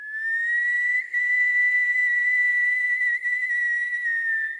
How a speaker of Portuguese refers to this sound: Quando um assobio aterrorizante ecoou por todo o povoado.